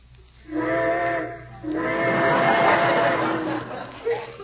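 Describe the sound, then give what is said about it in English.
A steam train whistle sounds twice, a shorter blast followed by a longer, loud wailing one with a breathy hiss, then a brief puff of sound at the end. “Trains, how I love them.”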